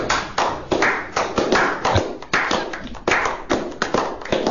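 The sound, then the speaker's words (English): A crowd claps steadily and loudly, a dense patter of many hands that keeps going without a break for several seconds, with no voices standing out, as an audience shows its appreciation for a guest. “Give it up and show your appreciation with your applause”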